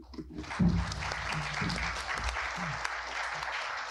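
A crowd at the Cato Institute applauds steadily, a dense wash of clapping that holds at an even, fairly loud level throughout, with a few low murmurs of voices underneath.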